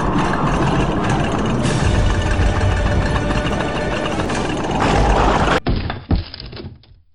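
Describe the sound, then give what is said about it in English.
A loud, continuous rumbling and rattling as a whole house vibrates and a table moves, roaring steadily for about five seconds, then abruptly turning duller, with a couple of thuds before it fades away. “Newsflash, the whole house is vibrating.”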